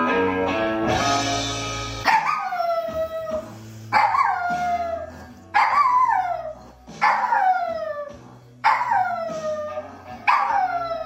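A dachshund howls along with music, letting out about six drawn-out, falling wails in a steady rhythm, each one loud and close over the quieter song playing underneath.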